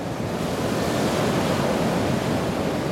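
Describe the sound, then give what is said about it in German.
Loud Pacific Ocean surf roars steadily a few meters from the US–Mexico border fence, a dense continuous wash of breaking waves with some wind noise mixed in and no voices. “Das Meer rauscht an diesem Tag besonders laut.”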